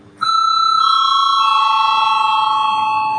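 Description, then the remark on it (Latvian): A parliament voting bell rings with one loud, steady electric tone that starts abruptly and sustains without a break for about three seconds. No one speaks over it. It is rung at the chair's request after the debate is closed, before the vote on a bill in first reading. “Lūdzu, zvanu.”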